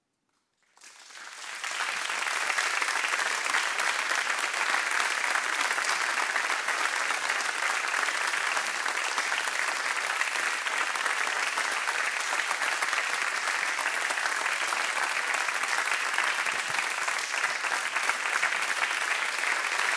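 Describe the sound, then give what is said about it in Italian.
Sustained applause from a large audience, following a performance of the poem for voice and body 'Non sono stata finita', swells in after a brief silence and continues steadily and loudly, a dense wash of clapping hands with no voices standing out. “Clara Galante, applausi per Clara Galante, Cinzia Pennesi.”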